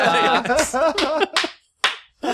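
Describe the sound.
Someone talks briefly, then a slow clap in response to a joke follows: about three sharp, deliberate hand claps spaced roughly half a second apart, clear with short silences between them.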